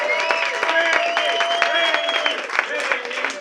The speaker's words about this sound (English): I'm so proud to be here today in America's heartland because we have the opportunity not just to clean up Illinois with our next governor, Bill Brady, but you bet. Round of applause for Bill.